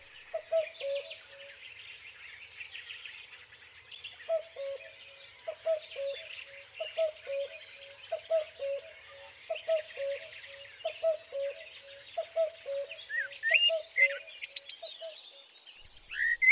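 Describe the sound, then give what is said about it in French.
A lively springtime dawn chorus: many birds chirp and trill together continuously, while one lower, steady call repeats in a regular rhythm underneath, with no voices present. “rappelait ce point de rencontre entre une fleur et un oiseau pour annoncer la venue du printemps.”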